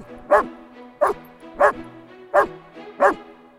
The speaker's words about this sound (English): Oh, Nana, be quiet. Oh, that dog.